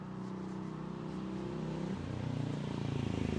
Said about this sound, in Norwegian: Motorsykkel i bakgrunnen, hører vi den.